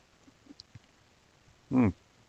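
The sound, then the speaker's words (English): A single brief slurping sip of a Dutch white beer rises loudly out of near silence, preceded by a few faint small clicks, with no talking. “Okay, just a sip.”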